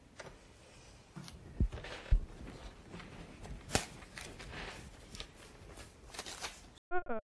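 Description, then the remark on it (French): A printer runs steadily for several seconds printing a form, its mechanical whir mixed with paper rustling and a few sharp clicks, before a brief voice cuts in at the end. “Je vais imprimer le formulaire.”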